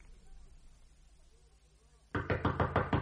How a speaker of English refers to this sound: Who is that knocks? A friend.